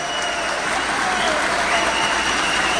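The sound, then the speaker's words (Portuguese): A crowd applauds the speaker steadily, many hands clapping in a dense, even wash of sound that stays loud and constant for the whole stretch, with no voices standing out. “Eu volto a Brasília com a alma incendiada para dizer, vale a pena estar na vida pública quando eu vejo obras e pessoas como aquelas que estão aqui hoje nos aplaudindo.”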